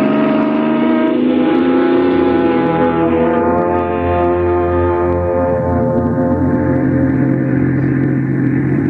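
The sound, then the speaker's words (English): A car engine roars loudly and steadily, its deep droning hum shifting in pitch as the car pulls away and drives off, setting out on a vacation, with no voices over it. “Ah, vacation, here we come. Come on, car, let's go.”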